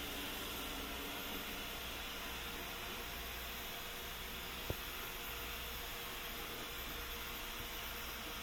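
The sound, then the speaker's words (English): A D-Bot robot vacuum cleaner, started through Alexa, cleans with a steady, fairly quiet whirring hiss that stays even throughout, broken only by a single sharp click partway through. No one speaks. “Okay, now your D-Bot is cleaning.”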